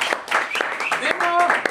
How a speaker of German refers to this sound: Also erst mal einen dicken Applaus.